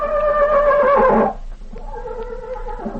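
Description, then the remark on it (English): A horse named Tarzan whinnies loudly, a quavering, falling neigh that breaks off after about a second and trails into a softer, lower nicker. “Tarzan always was a smart horse.”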